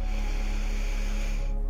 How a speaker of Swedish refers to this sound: Så vi börjar. Andas in.